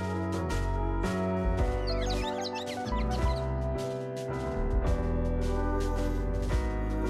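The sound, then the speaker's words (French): Birdsong recorded in Martinique is woven into a full, steady music track with piano-like chords, rhythm and regular drum hits; the bird calls flutter high above the mix, clearest near the start. “Tu t'amuses donc à faire chanter des oiseaux que tu enregistres en Martinique sur tes compositions de piano, de rythme, de batterie.”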